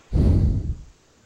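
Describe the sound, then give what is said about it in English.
A single heavy breath blasts straight into the microphone, a loud rushing exhale lasting under a second with muffled low rumble, then quiet. “Stop breathing in the fucking microphone.”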